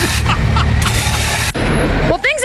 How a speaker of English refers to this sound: Within seconds, the former 14-story complex transformed into a great big pile of metal, cement, glass. And what should we not forget? The marble. Dust! And let's not forget the dust.